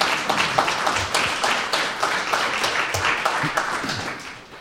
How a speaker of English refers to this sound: So why don't we start by my inviting you to give yourselves a big round of applause for making HYY possible.